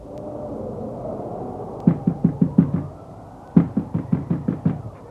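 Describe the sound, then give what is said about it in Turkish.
Heavy, rapid pounding on a door by someone demanding it be opened, loud: two urgent bursts of about six or seven hard thuds each, separated by a short pause, over a low background hum. “Açın! Açın! Kapıyı açın!”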